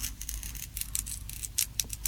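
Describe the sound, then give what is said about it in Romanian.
A knife cuts a round slice from a raw carrot in a quick series of crisp, crunchy cuts, about eight short bursts at a fairly steady rhythm, moderately quiet, with no talking. “Deja se aude așa cum crânțăne.”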